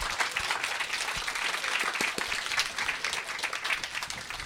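A crowd applauds steadily, many hands clapping in a dense, sustained wash of sound that stays fairly even in loudness throughout, with no voices standing out.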